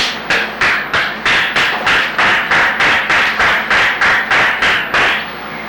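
A person gives a steady run of about fourteen loud, sharp hand slaps, evenly spaced a little under half a second apart, to call their dogs, which answer the hand-slap command; no voices.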